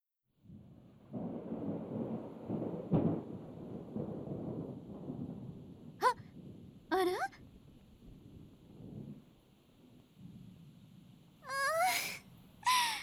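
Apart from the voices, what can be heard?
rain falling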